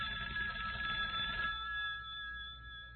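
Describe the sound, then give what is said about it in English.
A telephone rings late on a Wednesday night with a steady electronic trill, its bright tones sustained and fairly loud, fading slightly after the first second and a half. No one speaks. “Late Wednesday night, the phone rang.”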